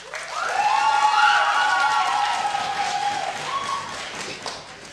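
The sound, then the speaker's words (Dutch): An audience at a balloon debate bursts into sustained applause with loud cheering and whooping voices rising over the clapping, with little foot stomping, holding steady for several seconds before tapering slightly. “Heel veel geklap, heel veel lawaai, maar toch weinig stampende voeten.”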